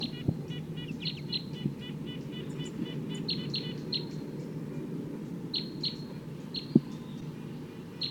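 Wild bird song with quick, repeated high chirps in bursts and trills, ringing out over a steady low background rumble, with a couple of brief knocks.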